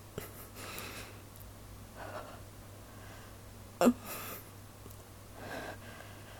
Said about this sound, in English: Holy shit. I'm sorry if this is all just me breathing heavily into the microphone.